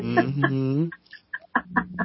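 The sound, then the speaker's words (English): A pet cat named Sophie, one of five cats in the home, lets out a long, drawn-out meow with a wavering pitch, followed by several short, chirpy meows in quick succession. “I think one of ours, Sophie, heard the word cat and or maybe telepathically, and so she's. Letting her presence be known if you can hear her in the background.”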